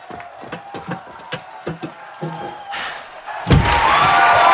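crowd cheering

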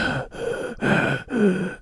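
audible breathing

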